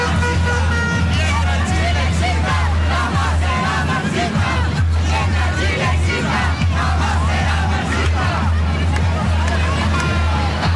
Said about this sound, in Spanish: entonces de estos gritos de la gente a la espera de el discurso de José Antonio Kast,